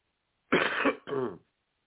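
cough

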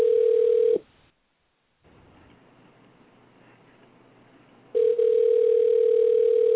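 phone call ringing tone

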